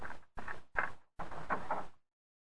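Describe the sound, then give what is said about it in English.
A door being opened, heard as a series of four rough, scraping bursts with short gaps between them, moderately loud, then silence. “Come on, open up. Or I'll put this fire extinguisher through that door.”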